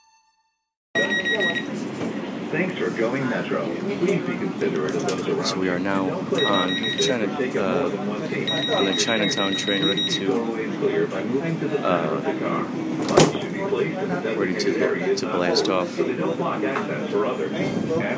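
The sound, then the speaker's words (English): Repeated electronic beeping from a train door sounds in bursts as the door keeps opening and closing with no one there, over a noisy carriage rumble while a person talks. “The beeping you heard was the door just kept opening and closing.”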